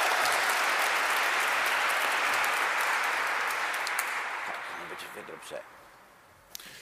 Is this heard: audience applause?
yes